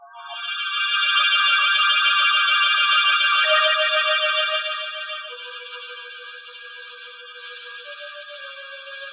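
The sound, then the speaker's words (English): A doorbell rings insistently, a bright, buzzing electric tone held for several seconds, dipping slightly in pitch partway through and continuing without pause. Loud, with no voices. “I don't know if it was the ringing of the doorbell that awoke me, dragged me back to consciousness out of a deep, heavy sleep.”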